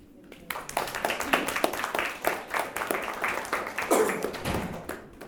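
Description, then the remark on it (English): A small group at a meeting claps steadily for several seconds as someone walks in after being favorably recommended in a vote: a dense patter of many overlapping hand claps, moderately loud, with a faint murmur underneath. “And we can clap when he walks in.”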